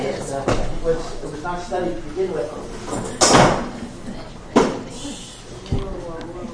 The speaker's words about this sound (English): this chair is falling apart here.